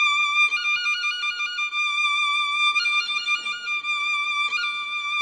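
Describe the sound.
A high, bright violin holds a sustained note while quick fluttering trills break out in three short bursts, mimicking birdsong. It plays alone and steady, with no voices.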